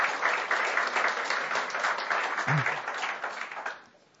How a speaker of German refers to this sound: Warten Sie mit dem Applaus bis am Ende der Darbietung.